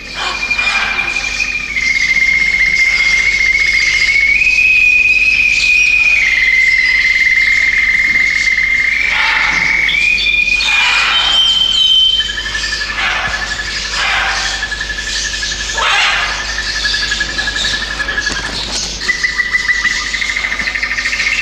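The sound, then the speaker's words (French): A Parisian nightingale that won an international singing contest sings at a bird park, long, steady whistled notes stepping up and down in pitch, loud, while harsh cries of macaws break in repeatedly throughout. “Nous regrettons évidemment que ce concert ait pu être troublé par les cris des aras qui sont peut-être jaloux de la belle voix du rossignol parisien, mais nous sommes quand même bien heureux que ce soit un rossignol parisien qui a enlevé ce concours”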